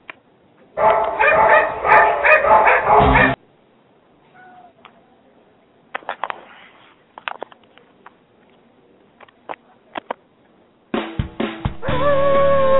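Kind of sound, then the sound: animal, dog barking and yipping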